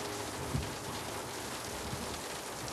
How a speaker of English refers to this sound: In the torrential rain, Jack drives Michael Jr. to the home he used to live in.